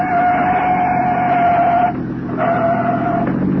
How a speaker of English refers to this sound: It's a police car. Police, huh? Sure. Sure.